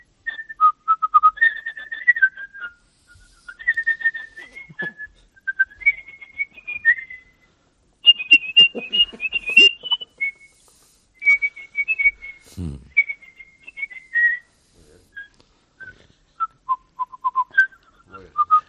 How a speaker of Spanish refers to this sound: esta habilidad tuya de silbar como un canario cualquier canción